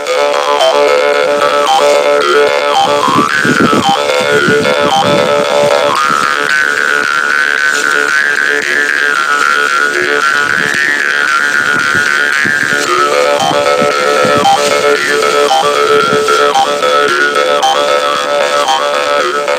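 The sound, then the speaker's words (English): A karinding, a Sundanese bamboo jaw harp, buzzes steadily and loudly, its twangy drone shifting in overtones as the player changes mouth shape, with rhythmic plucked pulses underneath and no talking. “finally Karinding is played as instrument to entertain farmers who are waiting their land”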